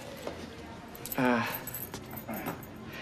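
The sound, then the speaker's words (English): Keys jingle in a lock, followed by a short creaking squeal as the door of a flat swings open, with faint muffled voices and room noise in the background. “Cleveland opens the door of the flat next to the young guy's place, and Mr.”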